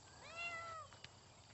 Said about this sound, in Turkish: Çantanda kedi mi var?